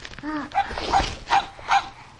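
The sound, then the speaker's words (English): A voice imitates a dog barking: four short bark-like yaps spaced roughly evenly, preceded by a brief whiny vocal sound. “Do you want your bottle? Dog sound.”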